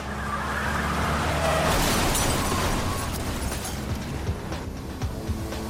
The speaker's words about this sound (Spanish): recibe un disparo en el brazo y en la espalda. Muere al instante.